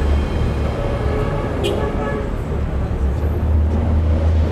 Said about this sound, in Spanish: Ese es el sonido que más se escucha ahora por las mañanas en Kiev. Tráfico, coches, personas saliendo a comprar o a trabajar.